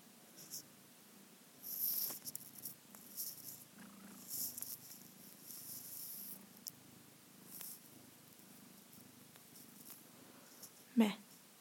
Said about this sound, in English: We have a little tiny new member in our house. As you probably already heard, this is our cat or kitten.